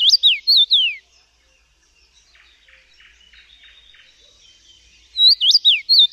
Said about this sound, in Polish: Śpiew dziwoni to łatwo wpadający w ucho melodyjny gwizd.